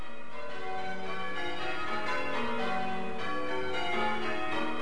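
Church bells ring out from a tower in a steady, overlapping peal, strikes following one another continuously with rich ringing tones, no voices present.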